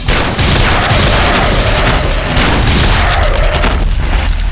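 A loud, dense barrage of gunshots fired in rapid succession at a charging pack of wolves, aimed at the lead wolves to scare them off until the ammunition runs out. The booming blasts blur together into a continuous roar for several seconds with no speech.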